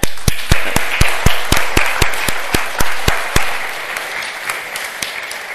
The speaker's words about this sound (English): I think we'll give them all a round of applause together.